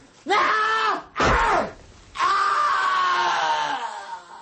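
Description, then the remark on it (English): A man screams three times: two short, harsh bursts, then one long, drawn-out cry that slowly fades. No speech is heard. “Even now I can hear that scream.”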